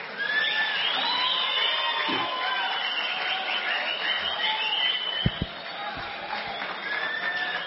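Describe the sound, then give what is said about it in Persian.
A wedding crowd screams, shrieks and cheers continuously, with overlapping high-pitched voices and scattered claps, loud throughout the whole stretch, after being asked to scream and clap for two or three minutes. “یه دو سه دقیقه جیغ بزنین و کف بزنین.”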